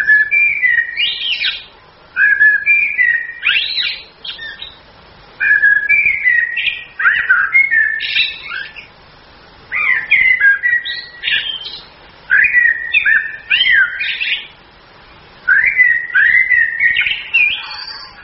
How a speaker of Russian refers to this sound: Когда певчий дрозд с самкой уже построил гнездо, отложили они там яички, вот у него начинается самая красивая песня.